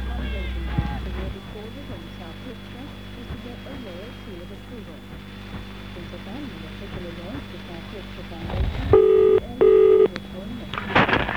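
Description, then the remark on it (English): Two short, loud electronic telephone-dialing tones beep one after another near the end of a Boyneside Radio advertising spot, over a steady low hum and faint background murmur. “All it takes is a simple phone call.”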